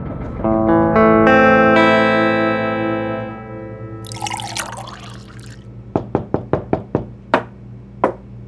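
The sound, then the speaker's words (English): A lingering musical chord and a brief rush of noise fade out, then about seven sharp knocks rap on the wooden back door of a marshal's office in the town of Buckskin, a quick cluster followed by a few slower, spaced blows. “About an hour after the stagecoach arrived in Buckskin, carrying the body of Judge Theodore Grumbler Grampus, a knock sounded on the back door of the marshal's office.”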